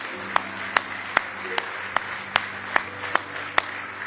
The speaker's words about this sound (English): Somebody say, praise the Lord. Let's give the Lord a nice hand clap of praise tonight.